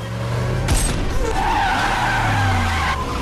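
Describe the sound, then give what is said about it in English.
A speeding gray sedan's tires skid and squeal loudly over a steady engine roar, with a sharp burst at the start and wavering high-pitched screeching as the car veers after its driver is shot in the shoulder. “He hits Victor in the shoulder. The car veers dangerously.”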